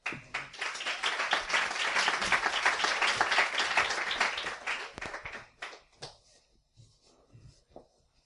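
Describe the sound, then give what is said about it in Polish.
A crowd applauds steadily for about five seconds as the last speaker is invited up, a dense wash of clapping that then thins into a few scattered, fading claps and some quiet shuffling. “Zapraszamy. Brawa.”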